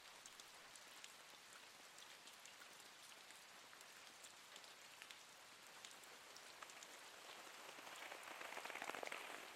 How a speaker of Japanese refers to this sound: 雨の音ってちゃんと聞いたことある？あの音って気持ちいいよね。雨の音を聞くだけでだんだん何も考えたくなくなっちゃう。